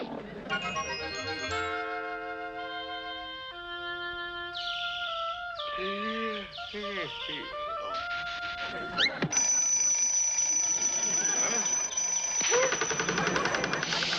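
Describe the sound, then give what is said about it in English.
An alarm clock rings loudly and continuously through the second half, a steady bright jangle that follows a run of tonal, cartoonish sound effects. “You numbskull, did you set that alarm? Well, sure, I gotta get up at 5.”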